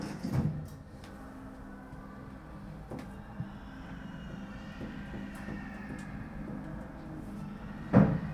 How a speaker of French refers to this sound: Fermeture des portes.